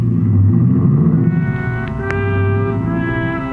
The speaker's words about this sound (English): Ibarra was grim as he climbed in his car and drove off fast.